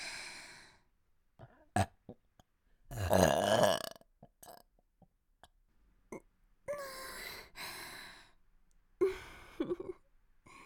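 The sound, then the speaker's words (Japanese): A long, loud, rumbling burp from a person, followed after short pauses by two more shorter burps, with soft breathing and small mouth sounds between them. “お待ちかねの座面ゲップ出まーす。”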